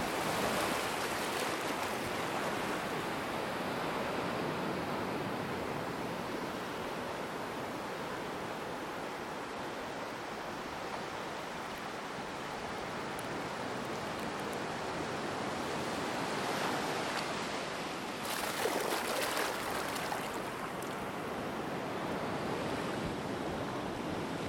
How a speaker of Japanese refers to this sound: 波の音を聞きながらやってみてください。